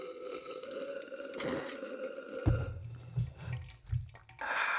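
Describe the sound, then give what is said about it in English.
Wet gulping as someone drinks water, a few thick low swallows in quick succession following a stretch of quieter background noise. “Let's both drink our water.”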